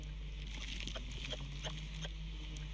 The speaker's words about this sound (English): The kangaroo squeak.